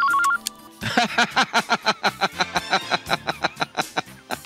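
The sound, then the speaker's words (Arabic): A short electronic telephone ring tone sounds alone for a moment on a call to Egyptian artist George El Bahgoury, then cuts off and his answering machine picks up, a recorded-sounding voice talking steadily and saying it is George El Bahgoury's number. “الأول كنت بكلمه في التليفون، وبعدين لقيت أنسر ماشين بترد عليا بتقول لي ده دي نمرة جورج البهجوري.”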